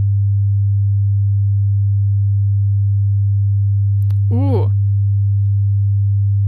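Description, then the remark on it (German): A steady low sine wave tone hums continuously and loudly throughout, with a brief voiced exclamation rising over it near the middle. “Oh, das ist irgendwie, das ist ein Sinuston oder so, ne?”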